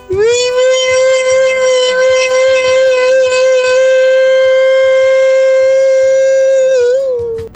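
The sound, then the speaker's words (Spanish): A loud, buzzy siren-like wail holds one steady pitch for about seven seconds, rich with harsh overtones, then wavers briefly and cuts off. No one speaks. “No, una mezcla de una sirena, una cosa totalmente desordenada.”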